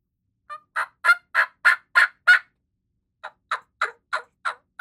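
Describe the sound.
Two runs of imitated turkey hen yelps, loud. A steady series of about seven raspy notes, a brief pause, then a second cadence of similar evenly spaced yelps. No talking.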